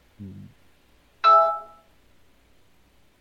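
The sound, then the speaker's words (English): A cell phone left unsilenced during a presentation in a theater rings with a single bright, bell-like electronic chime that fades out over about half a second, just after a brief low murmur. “Someone forgot to silence their damn cell phone during the presentation.”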